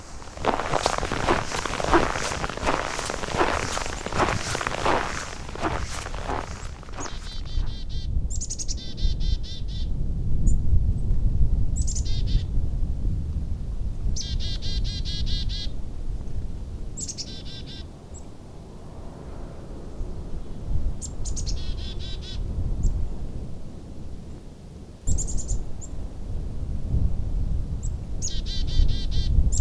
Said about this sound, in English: Come along as we take a winter walk into a pine forest.